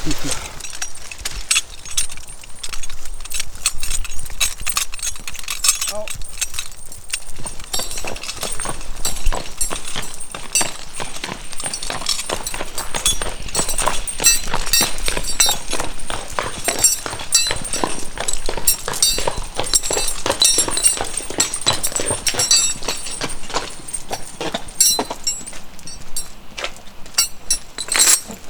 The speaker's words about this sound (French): Là, c'est la pause casse-dalle pour le cheval. Oh bah, dès qu'il y a à manger, des 2 ou 3 feuilles, de toute façon.